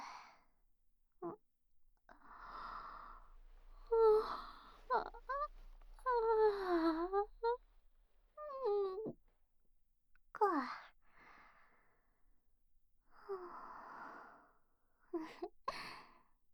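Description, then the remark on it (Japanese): A big, drawn-out yawn: breathy gasping inhales and a wavering, stretched voiced moan that rises and falls, trailing off into soft sighing breaths, with no talking. “大きなあくび出ちゃいました。”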